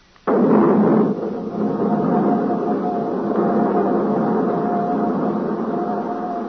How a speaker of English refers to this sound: I'm ready to fire. Hold it. Okay, all set to fire. Clear? Clear. Starting right jet.